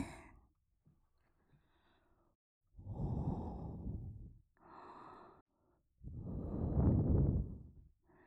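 Soft breaths blown gently into the listener's ear, three airy puffs with pauses between them, the last one longest and fullest, with no talking.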